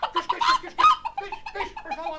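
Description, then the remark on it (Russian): A hen in a palace hall clucks busily in a quick, uneven run of short calls, fairly loud, filling the moment with no talking over it. “И все-таки слуги схватили курочку, но она проворно сунула свой клювик в корзиночку и достала камень.”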